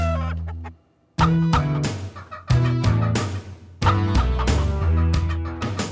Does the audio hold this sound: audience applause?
no